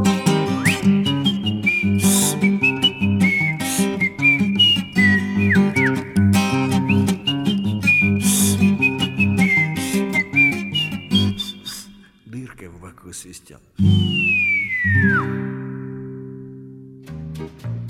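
A bright whistled melody rides over a steady instrumental backing, its notes gliding between pitches, then the music thins out and the whistle ends with a long falling swoop.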